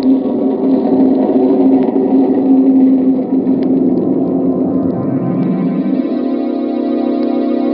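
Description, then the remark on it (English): A heavy train rumbles along steadily, a loud, continuous low roar with a rhythmic churning undertone that shifts in pitch partway through as it keeps rolling on. No one speaks. “and the train thunders on.”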